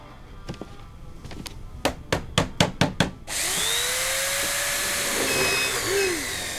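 A few faint taps build into six sharp, evenly spaced hammer blows on wood as a small cabinet is assembled, then a loud, steady whirring machine noise with rising and falling whines takes over.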